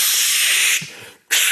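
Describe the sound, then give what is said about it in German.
A voice imitates the hiss of applying spray deodorant: a loud, bright hiss held for most of a second, tapering off, a brief pause, then a second sharp burst of hiss. “Ich finde zum Beispiel, allein das Auftragen von Sprühdeo ist zwischen Männern und Frauen schon ein unterschiedliches Ding. Frauen machen so und das war's und Männer sind so.”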